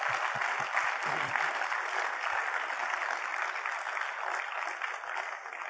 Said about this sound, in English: And on behalf of all of us here, I want to tell you again just how grateful we are for the vocation you chose and the service you gave to all of us. So let's give him a big round of applause for that.